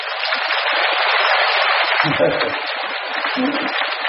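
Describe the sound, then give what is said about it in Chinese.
A crowd of Buddhist disciples claps in thanks to the master, steadily, a dense, even wash of many hands that holds at a fairly constant loudness for about four seconds, with a few faint murmurs underneath. “感恩师傅啊，感恩师傅。 鼓掌。”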